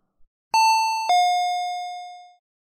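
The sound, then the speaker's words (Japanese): A front door chime rings a single two-note ding-dong, a higher tone followed by a lower one that lingers and fades out slowly. It is clear, with no talking. “玄関のチャイム、鳴ったんじゃねえか？”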